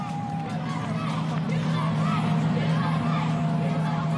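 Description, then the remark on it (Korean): A large crowd of citizens cheers and chatters in a dense, unbroken roar that stays loud and steady throughout, with a faint sustained tone of spectators' horns threaded underneath, at a Broadway parade in New York celebrating a soccer championship, with people waving American flags and confetti thrown from high-rise buildings. “행진 차량이 겨우 빠져나갈 수 있는 공간을 제외하고는 성조기를 흔들며 환호하는 시민들로 인산이 냅니다.”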